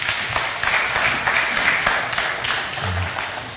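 A crowd applauds steadily, a dense wash of many hands clapping at once, sustained and fairly close throughout with no pauses or voices standing out.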